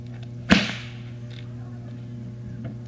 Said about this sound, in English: shows where the one fellow just takes another out and he just beats the tar out of him with a bull whip. I know you've seen that. So this is the way it's done. It's knowing how to control your whip.